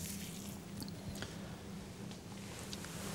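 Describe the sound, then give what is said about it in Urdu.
Water from a tap splashes and trickles continuously as the right hand is washed, the water running downward off the hand, a steady wet hiss broken by small squishy slaps and drips, with a low hum underneath and no one talking. “اب ہاتھ دھونے کا طریقہ کیا ہوگا کہ اس طرح سے ہاتھ کو داخل کیا اور یہاں سے نکالنا شروع کیا، کہ آپ نے توجہ کی کہ یہاں سے پانی نیچے چلنا شروع ہوا، یہ سیدھا ہاتھ دھل گیا.”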